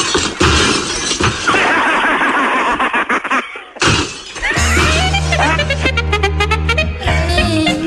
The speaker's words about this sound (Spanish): Pues es algo que le digo, mire, como quedan 4 cristales, esto me lo voy a romper yo, ya ves.